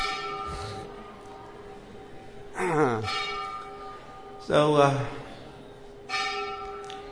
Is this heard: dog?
no